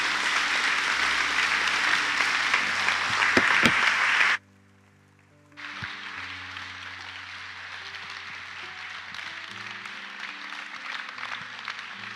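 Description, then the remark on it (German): A crowd claps steadily in dense, loud applause for about four seconds, breaks off abruptly into near silence, then resumes with slightly softer sustained clapping until the end. The applause is given for the history of this community. “Herr, und wir geben dir jetzt mal einen richtigen Applaus für die Geschichte dieser Gemeinde.”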